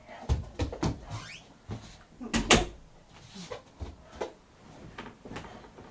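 door being pushed closed

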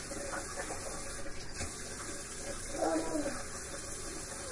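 water running

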